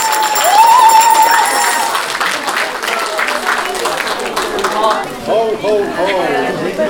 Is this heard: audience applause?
yes